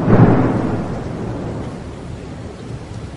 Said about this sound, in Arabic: المطر ينزل والأرض تتفجر حتى صارت الأمواج كالجبال، وهي تجري بهم في موج كالجبال، بلغت الأمواج رؤوس الجبال